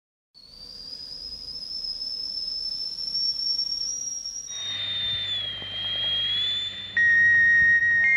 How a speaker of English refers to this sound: Whistling tea kettles have been letting off steam. It's just a great, sweet sound. For at least 100 years.